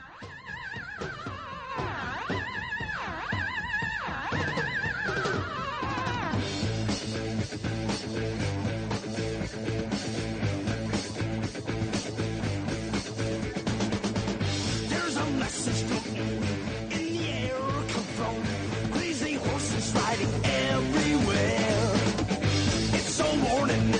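A loud rock song opens with wailing, swooping electronic tones for several seconds before a full band crashes in with driving drums and heavy guitars, steady and dense to the end.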